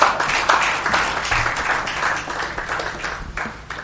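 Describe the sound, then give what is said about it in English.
A church audience claps for the choir, a dense, steady wash of many hands applauding together for several seconds, fairly loud, with no one speaking over it. “Let's give Jesus a clap offering for the choir.”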